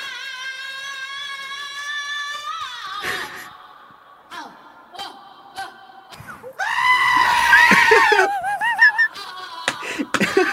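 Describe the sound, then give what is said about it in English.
Goats bleating mixed with a woman's shrill, wavering screams, loud and close, with several long cries and shorter bursts overlapping into a chaotic jumble. “So this is mixed with goats because they sound the exact same.”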